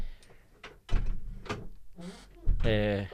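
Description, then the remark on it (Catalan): A door being closed during a live broadcast: a few scraping knocks and shuffles, then a loud, drawn-out squeaky creak, like a door needing oil, as it swings shut. “S'ha sentit aquella com la porta”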